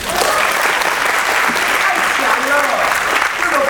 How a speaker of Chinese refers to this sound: 厉不厉害啊？不得不拍手。